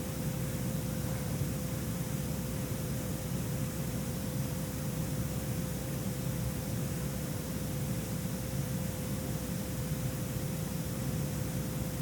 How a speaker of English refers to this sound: First I got pink noise and then I got chanting sounds in the background. Are very peaceful and quieting and give you maximum benefit of the energy that you eat.